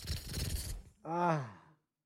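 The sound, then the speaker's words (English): A voice imitates a large number of roaches falling onto a floor from an opened fridge: a breathy, scratchy rush of noise lasting under a second, a short pause, then a voiced, wavering groan-like tone that trails off. “opened the fridge just to get some water, and a fucking ton of roaches just fell on the floor, and the sound was like...”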